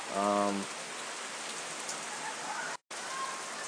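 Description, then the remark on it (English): Steady, dense rain hisses across the whole recording, constant, as people driving by in a golf cart get caught in it, with a brief voice-like tone at the very start and a momentary cutout near the end. “Some people driving by in a golf cart and getting caught in the rain.”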